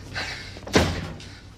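door being shut

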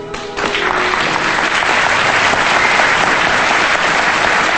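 theatre audience applause

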